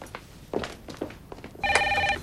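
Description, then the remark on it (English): A telephone that a receptionist answers rings loudly with a bright, steady, high-pitched trill over the last half-second, after a few soft thumps like footsteps. No one speaks. “As the receptionist answers the phone, Austin accidentally pulls the”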